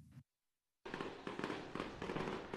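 After a brief moment of silence, fireworks erupt in a loud, dense barrage of crackling bursts and booms, with repeated sharp pops over a continuous rumble, on fireworks night at the Dell Diamond ballpark after Round Rock beat Tacoma 7-1.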